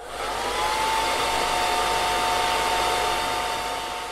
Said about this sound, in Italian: Poi si diede una scrollata, proprio come un cane bagnato. Il super camper fece partire più getti d'aria calda per asciugarsi.